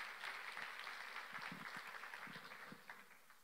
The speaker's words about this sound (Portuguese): Você pode dizer amém por isso? Pode aplaudir a Jesus, porque é profético.